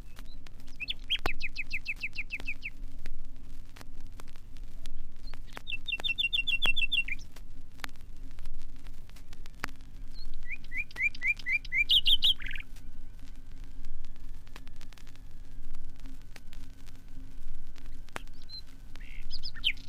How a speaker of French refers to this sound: rossignol est aussi attiré par l'eau qui coule vers l'étang. Il reste caché au creux du buisson, d'où émane ce chant si réputé.